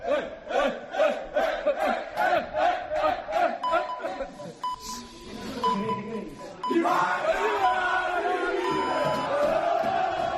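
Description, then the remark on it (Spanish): Valencia football players in their dressing room, celebrating after a victory while waiting for coach Corberán, shout and cheer together in a rhythmic chant, pulsing roughly twice a second, then burst into a sustained loud roar of celebration. “La imagen es los jugadores todos en la plantilla gritando y esperando que llegue Corberán para ver cuántos días de libranza o si le da algún día de libranza después de la victoria.”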